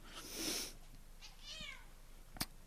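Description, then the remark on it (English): A cat wanting food lets out a short, wavering meow, preceded by a breathy rustle and followed by a single sharp click, with no talking. “Oh man, cats are, they want food.”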